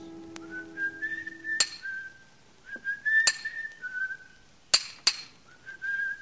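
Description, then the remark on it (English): Someone whistles a cheerful tune in a monumental mason's yard while a hammer strikes a steel chisel on stone several times at irregular intervals, each blow a sharp, ringing metallic clink. “From the yard itself came a cheery whistle, the noise of hammer blows, and the cold sound of steel meeting stone.”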